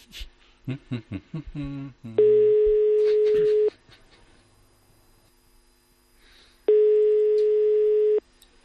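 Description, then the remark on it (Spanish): A quick run of keypad dialing tones as a call is placed from an office, then the outgoing call's ringback tone: two long, steady, low buzzing tones, each about one and a half seconds, separated by a longer pause. “Vamos a llamar a este teléfono.”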